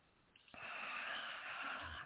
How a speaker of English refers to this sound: Excuse me, I had a little cough come up there.